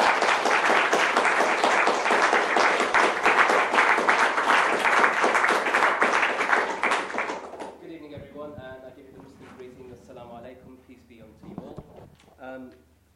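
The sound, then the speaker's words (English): A loud, sustained round of applause from an audience welcoming speaker Mozan Beg, a Cage Prisoners spokesperson and former British detainee at Guantanamo Bay, fills the first seven seconds, a dense wash of clapping that then fades out as a man begins speaking. “So I'd like you to give a round of applause to Mozan Beg.”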